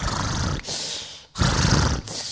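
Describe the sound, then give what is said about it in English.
A voice imitates the loud snoring of a devotee sleeping in a shared room: three rough, rasping breaths in a row, each a harsh snorting rattle, with short gaps between them and no other sound. “Like for example, you are sleeping in a room, another devotee is snoring.”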